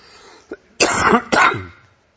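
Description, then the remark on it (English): A quick breath in, then two loud, harsh coughs in close succession from a person who has been sick all week, with no one talking. “I've been pretty sick all week, and I was hoping to get by. Has anybody got a cough drop?”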